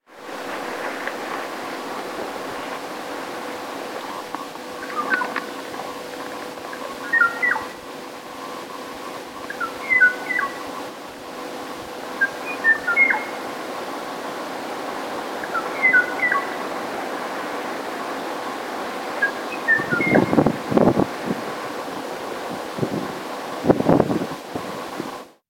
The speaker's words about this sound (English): That's the song. It's supposed to be a duet. You can hear the silences where the o'o still waits for a reply.